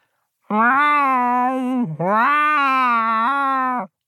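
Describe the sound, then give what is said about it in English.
A person's voice imitates a cat, giving two long, drawn-out meows back to back as the word cat spelled in cat language, each steady, loud and clear with nothing else around them. “I speak the language of cats, and I can spell any word in cat. For example, here is the word cat, spelled in cat.”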